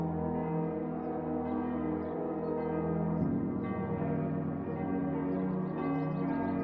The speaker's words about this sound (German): Während du in das Spiel hineingezogen wirst, hörst du seltsamerweise Glocken läuten.